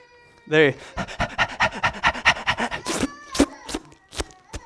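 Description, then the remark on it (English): A voice imitates a thirsty dog panting: a rapid, steady run of breathy huffs, about a dozen, followed by a few sharper, spaced-out mouth clicks. “Have you ever seen a thirsty dog lap water?”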